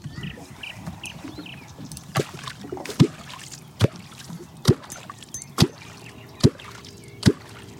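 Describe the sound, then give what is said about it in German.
A series of about seven deep, hollow knocks struck at a steady, unhurried rhythm, each one sharp and punchy, for luring catfish, over a quiet outdoor background with faint bird calls early on. “Okay, dann klopf mal.”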